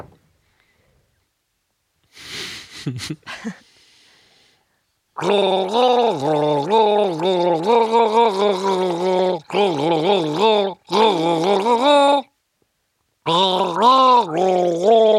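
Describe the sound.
Someone gargles a melody, a wet bubbling hum that rises and falls in pitch through several phrases broken by short pauses, after a brief noisy splutter at the start.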